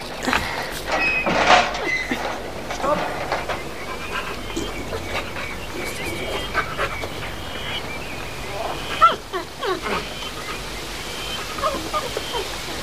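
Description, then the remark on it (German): Scraping and creaking as a door is pried open with a pocket knife, with uneven metallic scratches, squeaky strains and a sharper click near the end, no voices. “Wenn es ihm nun gelingt, die Tür zu öffnen, was wird er finden, was wird er sehen?”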